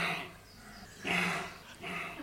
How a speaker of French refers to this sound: Je vais vous faire écouter le son d'un cri. Un cri du chevreuil, c'est comme un aboiement.